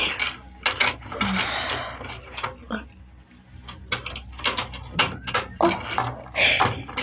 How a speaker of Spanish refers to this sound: La rubia espía saca del bolso de mano varias llaves y...